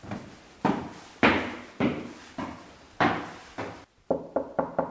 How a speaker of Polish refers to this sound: To pukać głośno, bo może nie słyszeć.